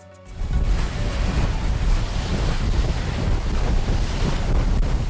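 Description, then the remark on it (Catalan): Loud, roaring sea surf pounds continuously during an easterly storm at Sant Antoni de Calonge, Baix Empordà, on the Costa Brava, with heavy low rumble and wind buffeting the microphone; no voices are heard. “però abans seguim parlant d'aquest temporal, perquè ara sentireu com sona el mar a la Costa Brava.”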